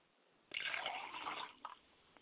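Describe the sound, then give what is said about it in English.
Liquid is poured out as a libation toward the east in a steady splashing stream for about a second, then a couple of trailing drips land as the pour stops. Fairly soft, with no talking. “I pour libations to the east and I say, Ashe.”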